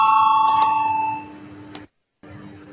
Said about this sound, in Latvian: Lūdzu zvanu, balsosim par otro deputātu Tavara iesniegto priekšlikumu. Lūdzu balsosim.